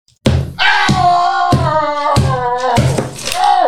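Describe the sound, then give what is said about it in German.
A chocolate Santa is smashed against a table about five times in a steady rhythm, each thud sharp and loud, while a person voices a shrill, wavering wail as a sound effect continuously between the blows. “Warte, ich hau den jetzt gegen den Tisch, ja?”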